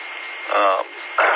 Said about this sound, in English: I was talking because it was acting like that. It's been acting like that for the last few days. I keep, you know, just bits of static. No audio or sound like anybody's trying to transmit. Just static and punching their, breaking the receiver.